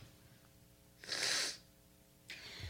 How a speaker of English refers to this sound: Right, we're both coughing. I know.